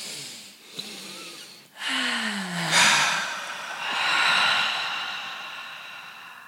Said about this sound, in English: so we're going to have you take a breath.